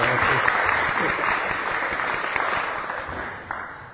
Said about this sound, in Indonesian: Wah, ini tepuk tangan ini.